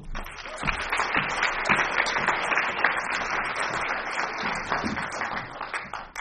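Audience applause fills the whole stretch, a dense, steady wash of many hands clapping at once with no pauses and an even loudness throughout, with no voices heard over it.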